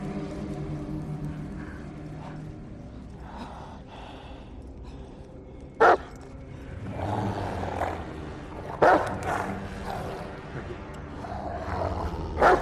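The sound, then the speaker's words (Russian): A huge dog in the fog in the distance, chasing two people, growls in a low, continuous rumble, broken by two sharp, loud barks a few seconds apart and another burst at the very end. “Вдалеке в тумане собака.”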